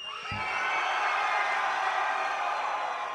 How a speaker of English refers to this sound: Hey, yo, Orlando. Hey, Orlando. Okay, I want y'all motherfuckers to scream like it's coming from your soul, okay? Come on.